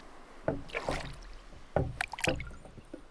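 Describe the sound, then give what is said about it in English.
Oars of a boat on a bay dip and pull through water in a steady rhythm, each stroke a splashy swish with a faint wooden knock, repeated about every second and a half at moderate loudness. “Okay, right, oars, and here we go.”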